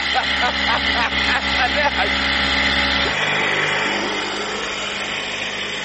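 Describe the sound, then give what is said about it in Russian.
A steady motorboat engine drones loudly, its low hum continuous throughout, with people talking over it. “Хочешь поуправлять лодкой?”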